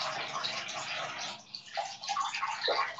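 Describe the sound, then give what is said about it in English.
Steady rush of tap water pouring into a very large bathtub as it fills, a broad continuous hiss with brief gurgling splashes, fairly loud throughout. “It's just such a big bathtub that like it takes a really long time to fill.”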